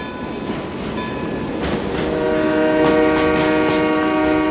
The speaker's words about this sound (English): Daddy, Daddy, I hear the train. It's coming.